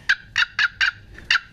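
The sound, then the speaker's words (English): A rapid series of five loud, rattling gobble bursts, evenly spaced, with a harsh turkey-like tone produced by a Primos handheld gobble call used as a turkey locator call; no voices. “So anyway, here's a gobble from Primos. And it's a great locator.”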